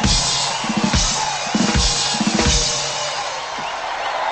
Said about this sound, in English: the crowd roars its approval.